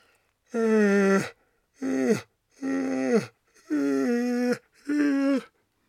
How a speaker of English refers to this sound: Connecting, holding onto your hands and opening your arms out. Stretching upwards, breathing in, and that yawn again.